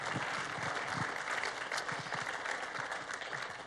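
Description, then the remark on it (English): An audience applauds steadily to welcome first-time visitors, a dense wash of overlapping claps filling the whole stretch at an even, moderate loudness with no speech over it. “If it's your first time here, if you're a new visitor, we want to acknowledge you and welcome you by clapping.”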